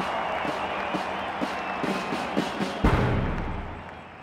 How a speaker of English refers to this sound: With China in a mess after years of nationalist rule, Mao is greeted as a hero by the people. He allows himself a smile as he takes in the crowd's applause.